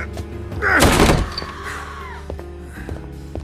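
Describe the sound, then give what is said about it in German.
A single heavy thud as a shoulder rams into a locked, heavily panelled wooden door, a loud impact that rattles the wood before fading into quiet room tone. “Die Tür war verschlossen, also ließ ich sie eine meiner Schultern spüren.”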